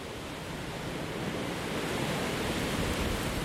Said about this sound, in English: Wow, even here, it's a very strong wind.